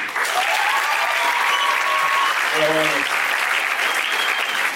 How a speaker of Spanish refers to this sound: Aplaudan de realidad. Hubo más gente que aplaudió cuando dijiste que sí bailaba bien, ¿no?